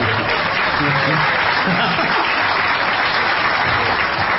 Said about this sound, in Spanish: Sí, gracias. Un solo aplauso. Gracias.